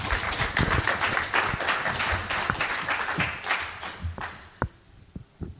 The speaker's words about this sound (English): Can we get a round of applause for our panel?